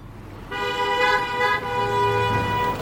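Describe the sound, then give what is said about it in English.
Traffic at a street intersection rumbles steadily while a car horn blares in two long, loud, sustained honks, the second following a brief dip, with the engine drone continuing underneath. “The intersection where I'm standing was dead a few weeks ago.”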